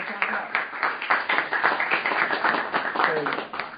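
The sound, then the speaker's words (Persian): A group of students claps, a dense, uneven patter of sharp hand claps lasting a few seconds, with faint voices mixed in underneath. “خودتون تشویق کنید”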